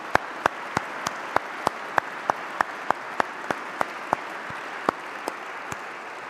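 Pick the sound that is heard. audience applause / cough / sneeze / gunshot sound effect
audience applause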